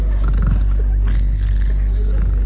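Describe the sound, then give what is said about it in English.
A voice imitates loud snoring, doing an impression of a sentry fast asleep while lying on the ground with eyes closed: a low, rough, rattling drone that runs steadily through the whole moment with a gravelly, growl-like texture and no words. “Lays on ground, closes eyes, does imitation cardboard snoring.”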